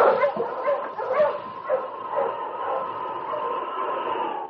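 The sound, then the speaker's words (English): A pack of sled dogs barks and yips excitedly as their driver cracks a whip over their heads, several overlapping voices in quick bursts over a steady noisy background, moderately loud. “Buckeye moved to his sled, cracked the whip over the heads of his dogs”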